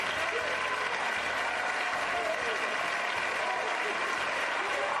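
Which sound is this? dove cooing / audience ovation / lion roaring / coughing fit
audience ovation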